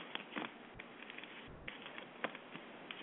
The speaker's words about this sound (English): I'm going to give them a good shuffle. I'm going to pull out three cards from the middle, and it'll tell me a little bit more about your love life.